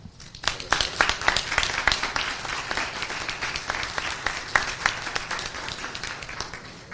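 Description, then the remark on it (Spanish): Audience applause given in thanks to the Fundación Repsol for its commitment to the municipality. It rises quickly and holds steady, a dense patter of many hands clapping together, fairly loud and continuous for several seconds with no voices over it. “No sin antes pedirle un caluroso aplauso en agradecimiento a la apuesta decidida que la Fundación Repsol viene haciendo con este municipio.”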